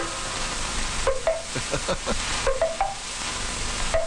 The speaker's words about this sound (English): See if this sounds familiar to you. Listen to the sound of the Maxwell House Coffee Pot at work.